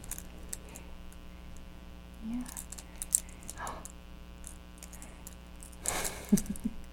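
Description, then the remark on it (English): Keys are shaken, jangling in a few short, bright bursts, the loudest near the end, over a steady low electrical hum, with a brief spoken word in between. “They're making a sound, kind of like music, isn't it? You shake them.”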